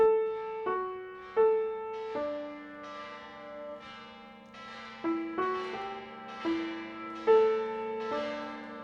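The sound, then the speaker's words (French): Church bells ring out in a steady peal, about a dozen strikes at shifting pitches, each tone lingering and overlapping the next. Clear, with no voices. “Une cloche, une prostituée.”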